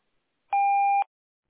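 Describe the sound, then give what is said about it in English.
A single steady electronic beep, a pure mid-pitched tone lasting about half a second with a faint higher overtone, sounding alone against silence: the voicemail tone after which callers leave a message for Antares Capital Corporation. “We are away from the phone at the moment, but please leave your message after the tone and we will return your call.”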